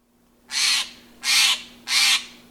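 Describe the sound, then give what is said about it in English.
A Steller's Jay gives three harsh, raspy calls in a steady, evenly spaced rhythm, loud, with no one speaking. “As December days shorten, you may wonder where birds, including this Steller's Jay and others, spend the long, cold nights.”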